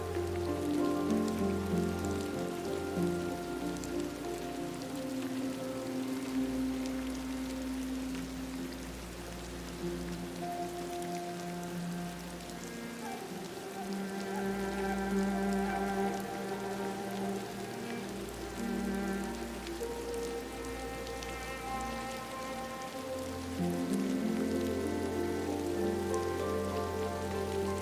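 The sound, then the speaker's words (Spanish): Steady rain patters on a koi pond throughout, a dense continuous hiss of drops layered over a low, sustained droning tone, with no voices. “Aquí abrazas la eterna sabiduría de la lluvia.”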